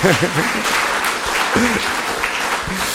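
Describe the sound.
Sustained audience applause welcoming a guest fills the whole stretch, a dense, steady crackle of many hands clapping, with a few brief voiced calls or cheers rising over it.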